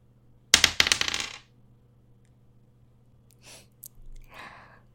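Dice are rolled during a board game, clattering and tumbling across a hard surface in a quick burst of rattling clicks lasting about a second, followed by quieter breathy sounds and near silence.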